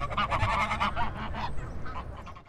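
A duck quacks loudly in a quick run of nasal, raspy calls, trailing off into a few softer quacks, with no one speaking.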